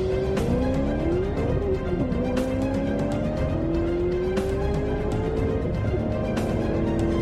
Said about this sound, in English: Yeah, well, let's see if they can keep up with the power of the mighty V6.